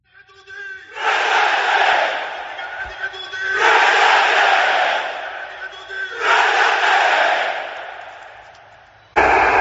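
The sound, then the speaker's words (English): A large demonstration crowd in Rome, Italy, outside the historic headquarters of Italian socialist movements, held in memory of three right-wing militants killed in 1978, chants in unison, loud, echoing shouted phrases repeated three times with short pauses between, then a fourth chant begins abruptly at the end. “Yeah, a demonstration in Rome outside historic headquarters of Italian socialist movements.”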